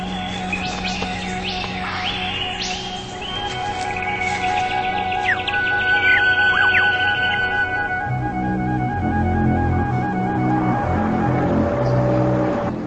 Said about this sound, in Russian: Но все же сейчас еще очень рано, и вы услышите, я надеюсь, как пробивается через обычный городской шум утреннее птичье щебетание, доносящееся с высоты римских биней.